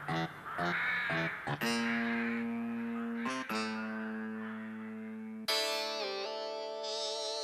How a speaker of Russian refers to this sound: Птицы кружили около балкона и противно каркали. Юра закрыл балконную дверь, задвинул занавеску, но их крики доносились и в комнату.